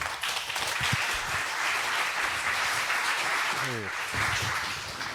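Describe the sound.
A crowd applauds steadily for about five seconds as a speaker is introduced for a talk, a dense, even wash of many hands clapping at a constant loudness, with faint voices mixed in underneath.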